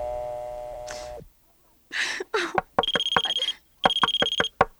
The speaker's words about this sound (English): Don't you hear the alarm?